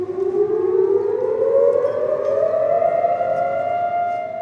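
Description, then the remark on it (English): A civil defense siren wails loudly and steadily across Israel on Holocaust Remembrance Day, its tone slowly rising in pitch, with a broad hum of background noise beneath it and no voices. “Sirens blared across the country, traffic stopped on highways, and Israelis stood for 2 minutes of reflection.”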